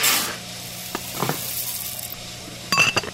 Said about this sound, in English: scooping whole beans from a glass jar when I walk in.